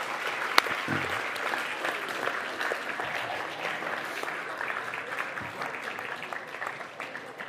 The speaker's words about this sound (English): We should have given her a big round of applause for catching the lion.